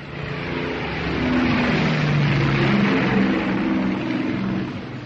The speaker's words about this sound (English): At 7 a.m. on June 4th, the first planes roared down the Enterprise's deck. Our Air Group 6 launched 57 planes, 10 Wildcats, 33 Dauntless dive bombers, and 14 Devastator torpedo planes to hit the enemy carriers off Midway.